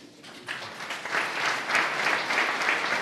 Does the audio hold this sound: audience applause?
yes